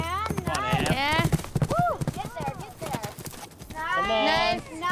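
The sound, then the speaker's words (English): A horse named Power is ridden around barrels in a training arena at Snyder Family Ranch, Elk Ridge, Utah, its hooves clopping in a steady, rhythmic beat on the ground, with high, wavering whinny-like calls and indistinct voices of the watching family layered over the hoofbeats. “rides power in a training arena as her family watches.”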